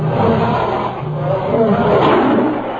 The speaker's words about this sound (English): At the same time, he trembled for fear of the lions. For now, they were on either side of him, straining at their chains. And how they roared and snapped at him, and how they tried to catch him by the foot.